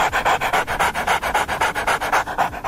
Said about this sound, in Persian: گوریل‌ها و بعضی از پستاندارای دیگه وقتی قلقلک داده میشن مثل انسانها واکنش نشون میدن. البته میمونها چون دستگاه صوتیشون فرق میکنه، صدای خندهشون بیشتر شبیه نفس نفس زدن سگه یا کسی که حمله آسمی بهش دست داده.